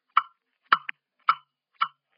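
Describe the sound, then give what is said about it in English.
A clock ticks four times at a steady, unhurried pace, each tick a crisp, woody click against silence, with no voices present. “Ticking. Stop ticking. I hear you, blasted clock.”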